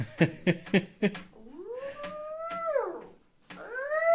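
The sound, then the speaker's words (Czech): A woman imitates a dog's howl, trying to set a dog howling, with long, drawn-out tones that rise, hold and fall, then start again, after a few short sharp yelp-like sounds. Fairly loud, no talking. “No nic, pokud slyšíte vytí, tak to není pes, ale přítelkyně. Která se snaží psa rozvít,”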